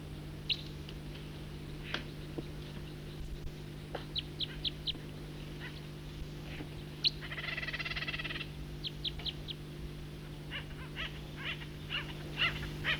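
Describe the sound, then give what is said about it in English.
Acorn woodpecker and Steller's jay calls: scattered sharp, high chirps, some in quick runs, plus one harsh, raspy squawk lasting over a second, all above a steady low hum. “And there are acorn woodpeckers and stellar jays in here.”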